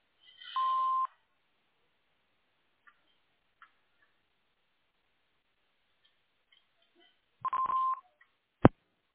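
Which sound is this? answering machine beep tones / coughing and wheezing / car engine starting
answering machine beep tones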